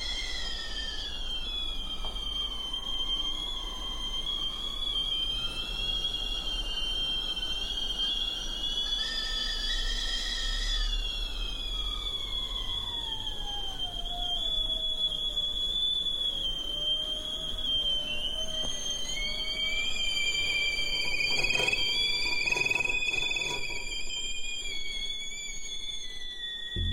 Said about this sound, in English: And they sort of created this composition with them by picking up teapots so they got quiet and then putting them back down so that they would whistle again. And they were not beautiful sounding teapots. They were those teapots with shrill whistles.